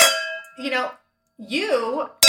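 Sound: glasses clinking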